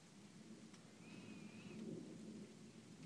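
A thunderstorm: low rolling thunder swells and fades beneath a steady hiss of rain, all fairly soft, with a brief thin high tone drifting through the middle.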